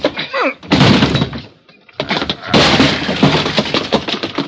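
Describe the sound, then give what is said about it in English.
Heavy, loud crashing impacts as a door is broken down, with splintering noise in two bursts and a brief lull between them, plus a short high squeal near the start. “Come on, let's hit the door.”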